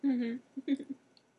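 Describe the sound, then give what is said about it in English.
A voice hums a drawn-out 'mmm' and then makes a few quick mouth sounds that imitate munching on food. “Munch, munch, munch.”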